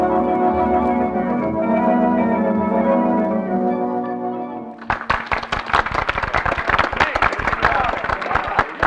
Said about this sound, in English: Commissioner, you can stop applauding now.